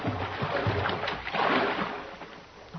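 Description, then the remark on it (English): A small boat rides rough open ocean water in early morning mist, with a continuous rushing wash of waves and splashing that surges louder midway as it lifts over a big swell, then eases off. “We're going to ride a good big swell.”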